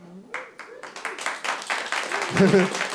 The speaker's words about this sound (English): The way I said that, I don't know which one they're applauding for.